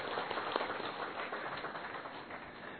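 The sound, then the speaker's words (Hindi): An audience applauds steadily to welcome a spiritual speaker, many hands clapping in a dense, even patter that holds at a constant level for a few seconds, with no voices above it. “जोरदार तालियों से इनके स्वागत करेंगे।”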